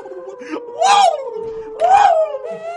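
A fox cries out twice in a dense forest at night, each call a drawn-out, wavering wail that rises and falls in pitch, separated by a brief pause, over a steady low hum.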